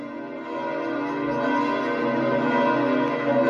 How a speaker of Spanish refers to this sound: Mientras escuchamos el tañido de las campanas de la Basílica de San Pedro, el Papa bendice a todos.